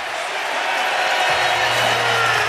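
arena crowd applause

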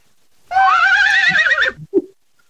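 horse neighing

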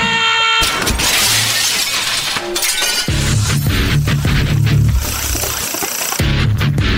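glass shattering

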